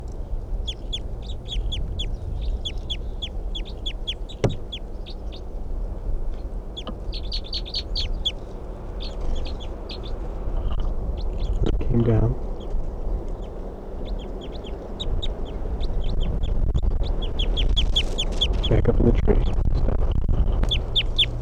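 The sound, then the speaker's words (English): Decoy birds call back in response to a wild bird in repeated bursts of short, high, chattering notes that continue throughout, with no voices, over a steady low rumble of background noise. “Decoys respond.”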